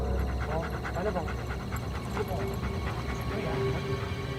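A police dog pants steadily as it picks up a trail, with short, high whimpers breaking through now and then over a constant low rumble of background noise.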